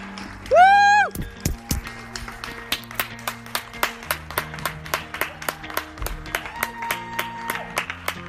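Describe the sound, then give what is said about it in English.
A rising whistle, then a crowd out on the street clapping for National Health Service workers during the coronavirus pandemic, in a steady, even rhythm, sharp claps repeating for several seconds with a faint tone and murmur beneath. “That was a big clap out that was organised for the National Health Service workers as a way of saying thank you for all that they do for looking after people with coronavirus.”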